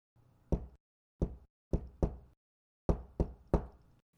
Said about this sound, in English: Now, boys, when we knock, we must be careful to knock exactly 7 times, because he is very superstitious.